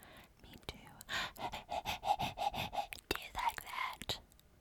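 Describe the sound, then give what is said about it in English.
Rapid, rhythmic huffing breaths blown right into the microphone, close and breathy like panting, in a quick run of bursts with a few sharper clicks and pops. “I'm gonna need you to go ahead and not huff like a panting dog in the microphone in my ear.”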